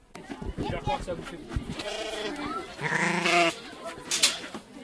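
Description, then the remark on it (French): Several sheep bleat, their wavering cries overlapping in a loud, quavering chorus that swells in the middle before a final sharp bleat. “Du coup, maintenant, on sait ce qui se passe et on va demander l'avis aux moutons.”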